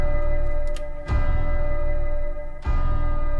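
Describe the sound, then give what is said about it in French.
Two heavy, resonant ticks from a clock hidden in the walls land about a second and a half apart, loud, over a steady low humming drone with no voices. “Il y a une horloge cachée dans les murs. On ne sait pas à quoi elle sert, à part que c'est effrayant. Tu entends le tic-tac?”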